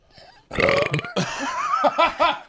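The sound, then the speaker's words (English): Two people burp loudly at the same time, a long, rumbling, overlapping belch lasting a couple of seconds and ending in a few short guttural pulses. “Tandem burp.”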